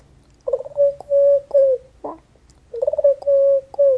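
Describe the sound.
A person's voice imitates a pigeon's cooing in two close, repeated phrases of steady, hooting tones, with a short breathy pause between them and no speech.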